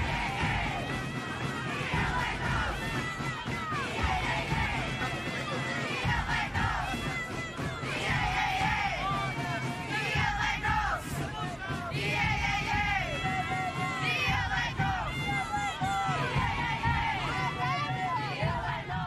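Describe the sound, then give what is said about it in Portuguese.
A large crowd at a São Gonçalo street festival procession shouts and chants "O Santo é Nosso! Yeah, yeah, yeah!" loudly and continuously, many voices overlapping in rising, excited cries with a steady low rumble underneath, as bass drums and snare drums accompany the saint's giant head to the Church of Mafamude for a contest between drum groups and supporters. “acompanham a enorme cabeça de São Gonçalo ao som dos bombos e caixas, seguindo até ao ponto de encontro na Igreja de Mafamude, para o despique entre grupos de bombos e claques, ao som de gritos de "O Santo é Nosso! Yeah, yeah, yeah!"”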